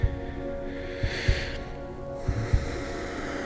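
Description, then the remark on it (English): Slow, deep breaths drawn in and let out, each airy inhale and exhale riding over a low, steady hum, with soft thumps at the start of each breath. “Breathing deeply, he began to hear the voice in the hum.”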